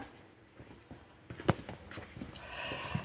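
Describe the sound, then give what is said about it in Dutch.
Footsteps of people walking on a hard floor as they move on to a larger letter tray: a loose series of clicking taps at an unhurried pace, with a faint murmur behind them. “En we lopen, dames en heren, naar een nog grotere letterbak, zou ik zeggen.”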